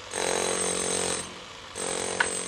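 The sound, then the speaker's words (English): A power drill, used by a worker on one of the few buildings under reconstruction in Suhumi, Abkhazia, whines loudly in two sustained bursts separated by a brief pause, its steady mechanical hum with faint outdoor background between. “A worker drills at one of the very few Suhumi buildings under reconstruction.”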